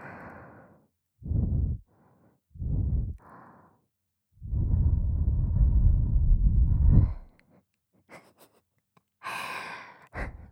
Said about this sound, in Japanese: 耳まで雑魚なんだね。吐息吹きかけただけなのに。